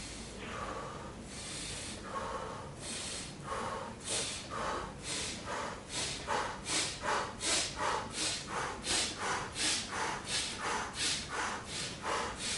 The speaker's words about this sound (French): Respiration, tantôt le corps basculé vers l'avant, tantôt le corps droit, tantôt la tête vers l'arrière, en variant votre respiration. Quand vous sentez que c'est inconfortable, vous ralentissez.